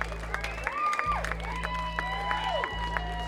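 A crowd at a live concert claps steadily and cheers for the band's drummer after a song, with scattered whoops and a few sharp whistles rising over the dense patter of applause, sustained through the short moment.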